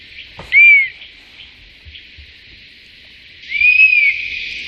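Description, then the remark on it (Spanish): A bird's whistled call, two wavering, slightly unsteady notes like a child learning to whistle: a short one, then a longer one after a pause, over a steady background hiss. “Tú dices que es como un niño aprendiendo a silbar.”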